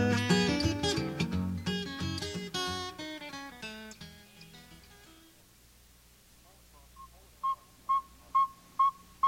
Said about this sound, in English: All across the northern part of the United States, tiny saw-whet owls are now hooting all night to find a mate. In northern Michigan, it's prime time to hear the saw-whet's monotonous call.